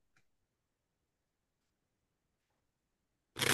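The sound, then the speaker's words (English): A faint click, a few seconds of near silence, then a sudden loud burst of rapid papery fluttering as a deck of playing cards is riffled and shuffled to lose a chosen card in the deck. “That's really shuffling, not me farting.”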